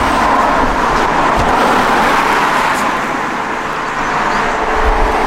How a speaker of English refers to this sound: It's not ideal here now with the traffic going by, but the bigger problem actually is the wires across the road.